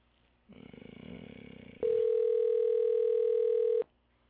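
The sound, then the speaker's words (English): A telephone line rings out on an outgoing call: a buzzy electronic tone gives way to a loud, steady ringback tone held for about two seconds, with no voices. “Pick up the fucking phone.”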